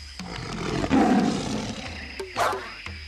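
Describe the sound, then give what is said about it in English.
A lion at the Alpha Zoo roars loudly, a deep rumbling roar lasting a couple of seconds, followed by brief clicks and a short higher squeak near the end. “The lion needs me.”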